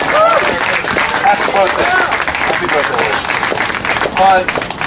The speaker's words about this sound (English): And can we get a round of applause for the courage? Yeah.